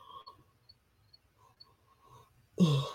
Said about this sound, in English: Excuse my yawn, but I've never heard of that happening personally.